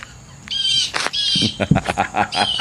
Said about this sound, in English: But you if you tell did, that bird to shut the hell up? Shut that bird up.